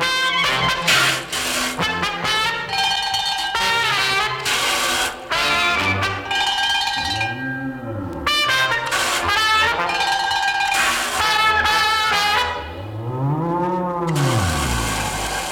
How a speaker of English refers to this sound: And there's the bell for round two.